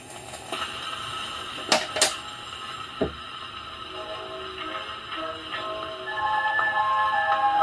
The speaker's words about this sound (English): Wind up, you have to release the brake on the platter, give it a spin to help it start going, and then set the needle down, and then close the lid because that helps keep some of the surface noise out.